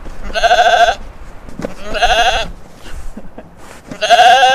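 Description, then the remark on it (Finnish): Three loud, wavering bleats from Late, a small grey ewe, evenly spaced about every two seconds, with faint rustling and background noise between them and no talking. “Ja ne on tosiaan uuhia, vaikka niiden nimi on Late ja Timppa.”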